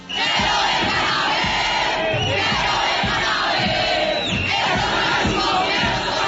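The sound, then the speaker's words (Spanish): A large crowd of protesters shouts and chants slogans together in a loud, continuous roar of many voices, with rhythmic bursts rising over the dense wall of sound throughout, outside the Plaza de Toros La Santa María bullring. “y estas eran las arengas que gritaron por horas los manifestantes en inmediaciones de la Plaza de Toro La Santa María”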